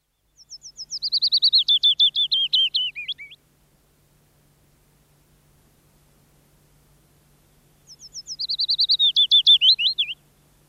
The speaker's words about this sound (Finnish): Lintu on pajulintu, eli uunilintu. Peippo ja pajulintu ovat aivan erinäköiset, mutta laulukuvioiden rakenteet muistuttavat toisiaan. Peippo laulaa iloisesti duurissa, mutta pajulintu visertää vienosti mollissa.